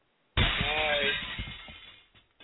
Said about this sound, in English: Glass. Glass breaking. Yes, it is.